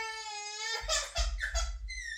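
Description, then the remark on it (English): A toddler whines in one long, high, drawn-out wail, then breaks into several choppy, sobbing bursts before a final thin whine. It sounds fairly loud, with no talking. “And sounding a lot like my toddler daughter.”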